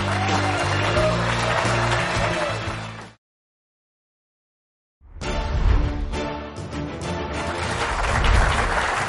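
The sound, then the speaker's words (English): Steady clapping from a group of people on the Mike McCarthy Show, loud and dense, following a brief silence; before the pause, a tonal, music-like passage plays over a noisy wash. “You can clap.”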